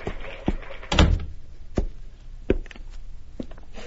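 An office door swings shut with a solid thud, surrounded by a few sharp knocks and latch clicks spread over several seconds, with no one speaking.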